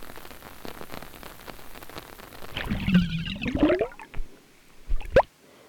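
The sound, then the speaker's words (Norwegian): Raindrops patter steadily against a window overhead, a dense crackle of small taps that swells into louder, splashier gusts midway before trailing off with a few sharp final bursts. “Se på hur allt blir uklart när regndroppene träffar vinduet över dig.”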